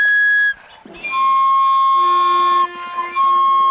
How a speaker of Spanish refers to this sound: se transformó en el sonido del silbato del tren, escuchá.